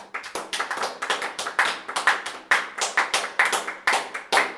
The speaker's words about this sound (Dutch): Met z'n allen klappen. Op drie beginnen we te klappen. 1, 2, 3.